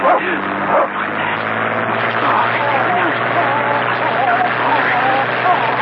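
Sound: dog barking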